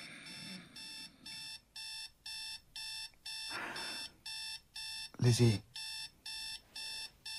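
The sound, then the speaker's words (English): An alarm clock rings at 5:30 with a steady series of loud electronic beeps, evenly pulsing about twice a second, while a brief voice and some rustling break in partway through. “Did you set the alarm?”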